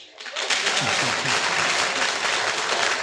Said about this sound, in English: So clap.